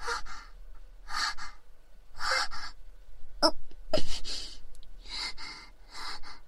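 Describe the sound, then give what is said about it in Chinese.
A run of about seven sharp, breathy gasps, fairly loud, building like an oncoming sneeze from an itchy nose that never comes. Someone is voicing the stifled sneeze build-up. “不行，好痒，是让我打喷嚏吧，让我打喷嚏。又缩回去了，怎么回事？”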